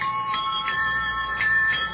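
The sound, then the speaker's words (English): An ordinary bicycle bell fitted to a jet bicycle rings several times in quick succession, each bright metallic ding blending into a steady high, shimmering ring that carries through the whole moment with no talking. “And of course, so no one guesses it's a jet bicycle, we have installed an ordinary bicycle bell.”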